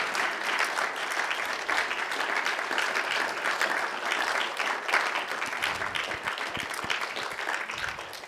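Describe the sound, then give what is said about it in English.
A crowd applauds steadily for about eight seconds, honouring a couple for all their years there, a dense, even wash of many hands clapping at constant loudness with no voices standing out. “So would you, on my behalf, and as if it was coming from me, would you give them a round of applause for all their years here?”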